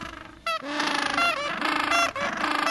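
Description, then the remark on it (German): A gentoo penguin's loud, harsh braying call, given when warning its colony of egg thieves: a rasping donkey-like series of strained honks with a brief gap partway through, with no talking. “Weil er ein eselähnliches Geschrei von sich gibt, wenn er seine Kolonie vor Eierdieben warnen will.”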